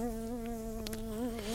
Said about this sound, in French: Si cette sacrée mouche pouvait venir se poser sur mon sucre